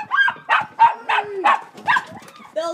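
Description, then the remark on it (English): Two dogs bark at a house in Missoula in a rapid, loud run of about seven yaps in under three seconds, the barks coming in an excited, overlapping rhythm. “she sits on the couch with her two dogs.”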